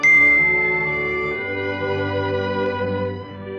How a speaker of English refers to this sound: At that moment, they heard a sound like the tinkling of bells. That's Tinkerbell, said Peter with a smile.